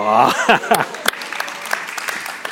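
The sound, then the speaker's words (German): An audience bursts into clapping that continues steadily as a dense patter, with a voice calling out briefly over the start of the applause. “Haben jetzt mir geklatscht oder ihm?”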